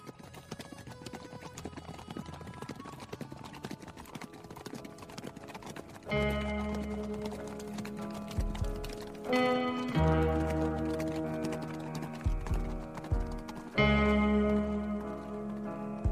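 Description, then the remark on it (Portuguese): A rider's horse's hooves clip-clop in a steady rhythm, joined partway through by loud sustained music that swells over the trotting. No one speaks. “É só o cavalo dele mesmo.”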